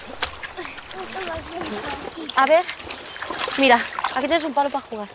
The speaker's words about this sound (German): An einem üppig begrünten Flussufer eine kleine Gruppe von Frauen. Sie waschen im klaren Wasser des Flusses. Große Laken werden zum Trocknen auf die Büsche gelegt.